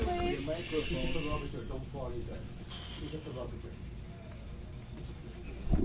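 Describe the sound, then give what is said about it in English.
Several audience members shush at once, soft hissing bursts rising over a background of murmuring voices and chatter, fading and returning across a few seconds. “Okay, I'll wait for all the shushing to stop.”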